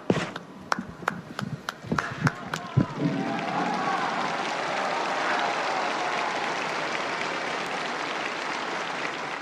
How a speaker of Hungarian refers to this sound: Szokásukhoz híven a mai napon is a zarándokok tapssal köszönik meg Ferenc pápa áldását, az ő tanítását.